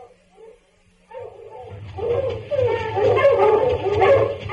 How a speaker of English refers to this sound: The dogs, Pa! Towards the swamp, Jody. Keep running, boy.